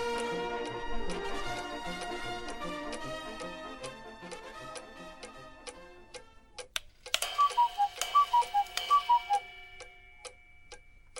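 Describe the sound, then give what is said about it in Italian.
A clock in a studio ticks steadily under sustained, ringing chime tones, then a sharp strike brings a brighter run of short, evenly spaced chiming notes before fading. No one speaks. “Perché l'orologio te lo sei portato qui allo studio, invece di tenertelo in casa?”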